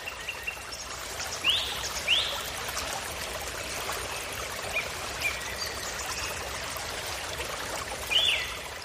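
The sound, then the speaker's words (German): A brook flows steadily, a soft continuous rush and trickle of water, with a few brief bird chirps rising above it now and then. No one speaks. “Folge dem Verlauf des Baches.”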